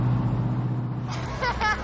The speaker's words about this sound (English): People ride on the back of a flatbed truck full of hay.